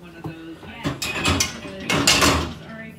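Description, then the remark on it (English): Dishes clatter as a dishwasher is loaded: a run of sharp clinks and knocks from a spatula, a ladle, a pot lid and drinking glasses, irregular and fairly loud, with no one speaking. “And I decided I'm going to listen to a podcast and I'm going to load the dishwasher.”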